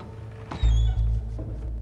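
A courtroom door opens as a man comes in: a sharp click, a short high-pitched squeak, then a heavy low thump and rumble that fades within about a second, with no voices.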